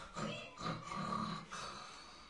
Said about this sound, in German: Frau, die fühlt sich auch schon ganz gestört, weil der so schnarcht. Jetzt hör nicht auf! Hör nicht auf zu schnarchen!